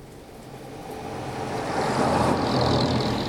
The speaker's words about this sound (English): He walks out onto the pavement under the shop's awning and strolls up the street. Green, white and orange buses pass.